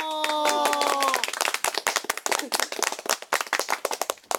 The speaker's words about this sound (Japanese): 拍手がいつもの3倍ですね。